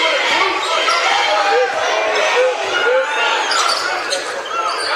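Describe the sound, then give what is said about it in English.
An Indian student section crowd cheers loudly and steadily at Prattville's home stadium during a basketball game, a dense roar of many shouting voices that holds throughout with only slight swells and dips. “despite it being Prattville's home stadium, you are going to hear a lot of Indian student section cheers.”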